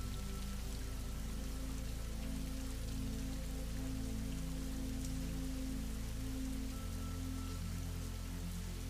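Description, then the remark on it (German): Steady rain pattering on a surface, a dense continuous wash of droplets with a low, even rumble underneath, holding at a constant level throughout with no voices. “Und nimm nun einmal die Geräusche des Regens wahr.”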